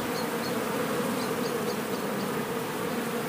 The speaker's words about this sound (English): Do you think it's decision what those bees have to find their hives? I don't know. It's a lot of bees around us here. I think it's really nice.